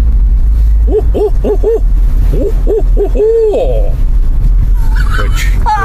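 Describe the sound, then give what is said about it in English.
A person imitates an owl's hooting, which sounds as though it's saying "Who cooks for you? Who cooks for you all?": a rhythmic series of rising and falling hoots ending in a drawn-out, wavering call, clear over a steady low background rumble. “Which Roger Torrey Peterson described the hoot as though it's saying, "Who cooks for you? Who cooks for you all?"”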